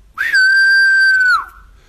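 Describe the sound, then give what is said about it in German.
A large black woodpecker gives its flight call: a single loud, drawn-out whistled note, steady in pitch for about a second before it drops slightly and fades, with nothing else sounding. “Die ist stark abhängig von einem anderen Vogel, von einem großen schwarzen Specht.”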